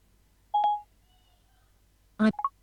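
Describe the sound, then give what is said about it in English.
A phone's keypad gives off a brief electronic tone as the phone is being unlocked, then after a pause a quick cluster of several higher beeps in succession, all heard alone with no talking. “I'm just going to unlock my phone.”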